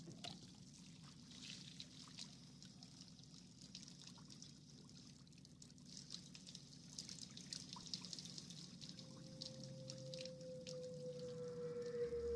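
water trickling

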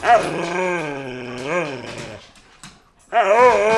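dog growling

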